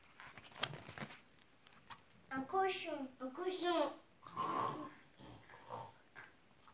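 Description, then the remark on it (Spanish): A human voice imitates a pig, making a few short, nasal grunting snorts in quick succession at close range, with breathy noises around them. “Gruñó el cerdo.”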